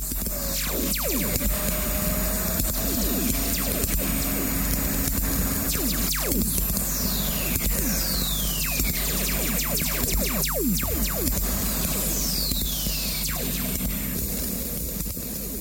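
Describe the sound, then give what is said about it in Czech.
A thunderstorm on Earth, as recorded by measuring instruments: a steady hiss of radio static broken by sharp crackling pops, with a few falling whistle tones sweeping from high to low. No voices. “Ta bouřka se dá, tady mohu použít ve vesmíru, poslouchat z různých perspektiv a možná by bylo fajn si to zkusit poslechnout, jak zní bouřka ze Země měřená.”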